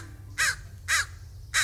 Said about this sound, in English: So you're walking down the street, and a trash can's been tipped over, and eagerly picking through the riches strewn across the sidewalk are several black birds. They're crows. Or ravens. No, definitely crows.